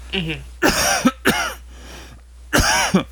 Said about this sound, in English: Excuse me. I know, it's enough to give anyone a coughing fit. Yeah, seriously. Oh, man, I don't know why I got a dry spot right then.